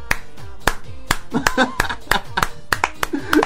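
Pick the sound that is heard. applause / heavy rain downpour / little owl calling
applause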